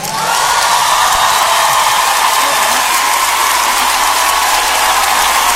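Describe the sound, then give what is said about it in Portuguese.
A crowd applauds loudly and steadily for several seconds, a dense wash of clapping with a few faint cheers mixed in, no speech over it. “Un aplauso para usted, muchachos.”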